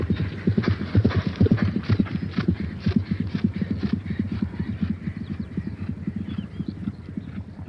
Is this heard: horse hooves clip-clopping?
yes